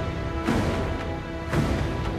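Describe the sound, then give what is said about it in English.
Cannon fire from a row of cannons shooting at rows of samurai, the shots landing yards short: two heavy booming blasts about a second apart, with a weaker third near the end, over a dense, steady rumble and sustained tonal background. No one speaks. “Smoke billows from the cannons. The shots make landfall just yards shy of the rows of samurai.”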